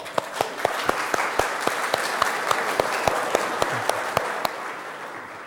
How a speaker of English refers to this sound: Yeah, big applause for that.